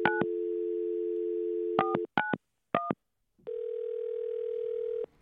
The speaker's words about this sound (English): and we are going to make a phone call right now